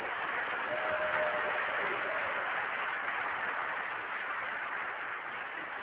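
A conference audience applauds a conference helper in a dense, steady wash of clapping that holds at an even loudness for about six seconds, with no voices rising above it.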